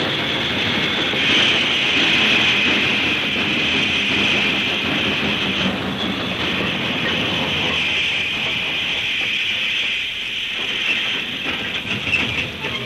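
A train with Westinghouse brakes being tried out grinds to a stop for a man lying on the track, with a steady metallic squeal of brakes over a loud rumbling clatter and hiss, the noise holding for several seconds before easing slightly near the end.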